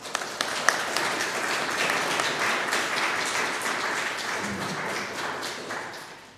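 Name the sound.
small round of applause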